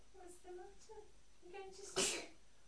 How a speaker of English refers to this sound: Oh, bless you. I hope you're not getting a cold. But you've done a lot of sneezing, haven't you?